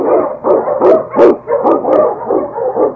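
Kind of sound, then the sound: animal, sled dog barking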